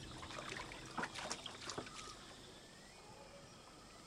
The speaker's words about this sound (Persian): سکت باش، صدای آب میاد.